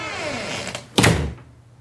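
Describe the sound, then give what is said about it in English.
The unlocked front door of a home opens: a brief rising creak, then a solid, fairly loud thud that quickly fades, followed by a quiet room. “Oh, door's open.”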